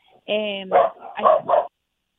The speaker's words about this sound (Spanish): Perdón, mis perros estaban ladrando.